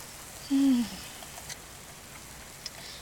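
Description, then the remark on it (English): Heavy rain pours down in a steady, dense hiss that fills the whole clip, with a brief low tonal hum rising near the start and no voices. “Of course, when we don't know where the heck we're going, of course it would start pouring down rain.”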